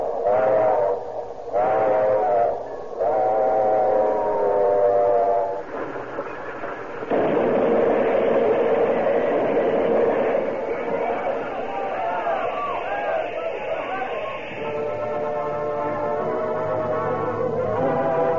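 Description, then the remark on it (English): A train engine whistle shrieks in several loud, sustained blasts as a passenger train carrying sleeping passengers roars through the desert at night, then a roaring rumble of the moving train swells beneath continued whistling, all intense with no talking. “A fierce shriek and the engine whistle split the air.”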